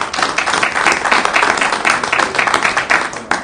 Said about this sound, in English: Well, a nice round of applause.